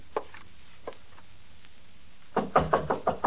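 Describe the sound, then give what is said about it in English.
Two single, spaced knocks on a door, followed by a quick run of about six louder, firm raps. No voices are heard. “Door's open. Come on in.”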